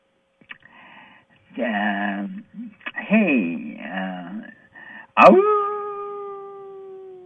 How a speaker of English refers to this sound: It's full moon, wolf howling full moon out there tonight.